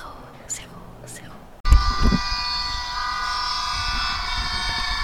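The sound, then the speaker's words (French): After a hushed opening with a few faint breathy sounds, a loud car engine roar cuts in abruptly as a car passes by, a steady droning rumble with humming tones that holds to the end. “Oh, une voiture !”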